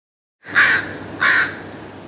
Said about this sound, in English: Presumably Northwestern Crow, 23 June 1989.